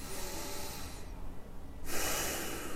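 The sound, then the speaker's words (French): Slow, deep breaths during a guided relaxation exercise: a long airy inhale, a brief pause, then a louder rushing exhale, with no talking. “Voilà, n'hésitez pas à respirer.”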